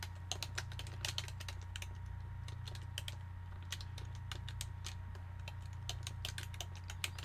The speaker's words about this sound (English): Excuse me, I'm typing text.